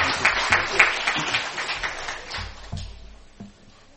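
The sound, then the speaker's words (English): Audience applause for a guest speaker, dense, crackling clapping from many hands, steady at first and then thinning out and fading toward the end. “Will you give a nice round of applause”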